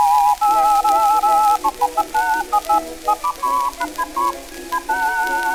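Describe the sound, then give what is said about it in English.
Two people whistle a lively tune together, their pure tones moving in parallel with short breaks between phrases, steady in volume with no talking. “All right, we'll whistle together.”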